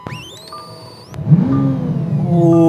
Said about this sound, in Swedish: Ska vi avsluta med att du startar bilen?